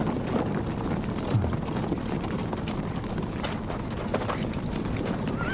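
Horse hooves clip-clop at a steady pace amid a constant wash of outdoor background noise, with no voices.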